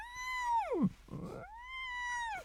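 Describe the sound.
A voice hums with the nose held, imitating whale song: a steady nasal tone that swoops down low, a brief breathy rumble, then a rising glide that holds high again, fairly loud.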